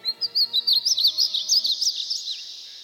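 Painted buntings sing from a tree near a pond, a quick, warbling song of high, tumbling notes, a rapid run of about a dozen chirps that fades toward the end, clear with no voices.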